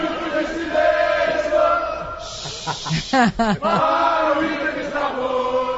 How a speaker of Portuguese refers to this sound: Olha o grito da torcida aqui. Os caras estão fazendo bagunça aqui.